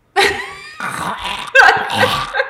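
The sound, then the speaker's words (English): A loud, drawn-out yawn from a single person, voiced and wavering in pitch, lasting a couple of seconds with a breathy swell partway through. “I have to yawn now.”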